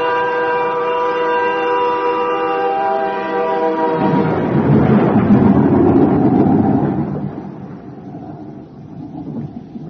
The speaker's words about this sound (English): Storm.